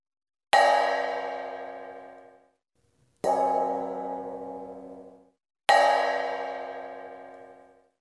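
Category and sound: household object, large frying pan struck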